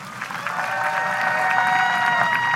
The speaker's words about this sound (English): Everyone give a warm round of applause for Dr. Graham Lau and Rebecca Boyle.